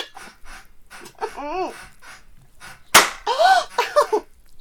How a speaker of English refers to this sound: Yes! Slap me in the face again if you want to.